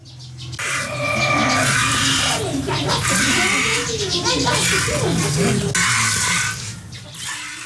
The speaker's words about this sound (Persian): در این مورد با صدای جریان دوشیدن شیرگاو